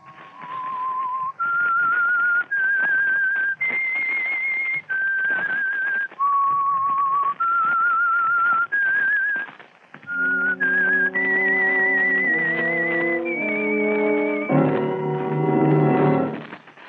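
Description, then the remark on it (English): The eerie whistled theme tune of the radio drama The Whistler, on Mystery Playhouse, opening the story Bright Horizon: a lone whistler carries a slow melody of long, held notes over a hissy backdrop, then full orchestral chords swell in beneath the whistling for the closing bars. “Tonight, The Whistler and his strange story, Bright Horizon.”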